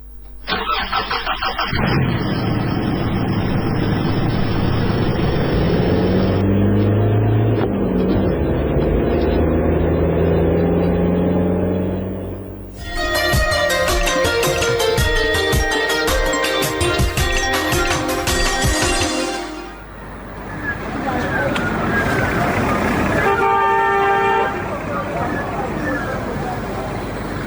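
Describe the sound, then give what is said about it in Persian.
A car engine starts and revs, its rumble climbing as the vehicle pulls away. A loud, sustained blaring honk follows for several seconds, then the engine keeps running. “برو بچه موتر حرکت بده.”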